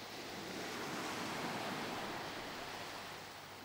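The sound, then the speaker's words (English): Soft, steady wash of small waves breaking on a sandy shore, a continuous hiss of surf that swells slightly and then eases, heard alone without any voices. “You can hear the sound of them softly breaking on the sand.”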